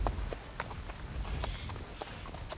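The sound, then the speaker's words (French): Horse hooves clop along at an unhurried walking pace through dry, bare oak-forest undergrowth, a series of sharp knocks spaced fairly evenly over a steady low rumble, clear. “Dans le sous-bois sec et nu comme un parquet d'église, inondé de cette lumière blanche qui aveuglait, la marche du cheval faisait tourner lentement de longs rayons noirs.”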